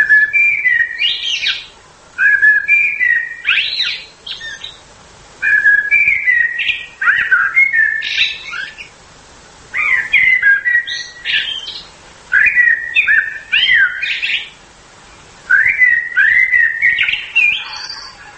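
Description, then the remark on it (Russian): A song thrush sings loud, delivering short bright whistled phrases in bursts of about two seconds, each followed by a brief pause, with no voices present. “Когда певчий дрозд с самкой уже построил гнездо, отложили они там яички, вот у него начинается самая красивая песня.”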